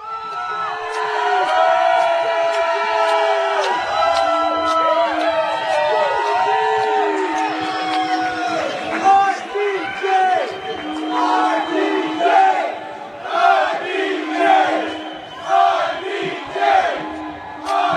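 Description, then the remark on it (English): A large live audience screams and shouts together in a sustained, dense roar of many high voices, loud and continuous throughout, with no single speaker standing out. “Let me hear you scream.”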